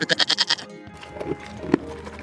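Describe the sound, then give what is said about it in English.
A goat bleats in a quick, wavering burst of pulses, fairly loud, then trails off into a softer, quieter stretch with a faint bleat near the end. “A goat named Mog eating mint.”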